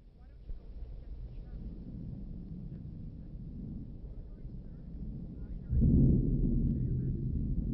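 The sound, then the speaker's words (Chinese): A steady, roaring storm of strong wind and rain under dark clouds with lightning, with a deep rumble swelling suddenly louder near the end like a burst of thunder. “马车备好时，天空黑云密布，闪电大风带来了雨。”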